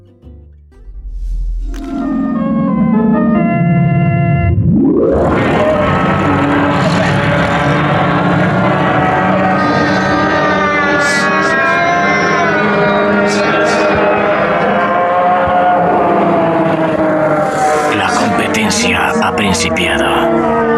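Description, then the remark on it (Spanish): Large race car engines on an oval track, after the first informal lap, rumble low, then rev sharply upward into a loud, sustained roar that fills the rest of the track, with pitch wavering as the cars pass. “Después de la primera vuelta informal a la pista ovalada, los enormes motores retumban con gargantas formidables y un alarido se escapa de la muchedumbre.”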